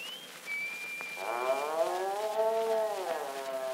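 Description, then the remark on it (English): Suki the cow lets out one long, drawn-out moo lasting about two seconds, steady, after a faint high whistling tone at the start. “Sure, it's Paddy, and with him, Suki the cow.”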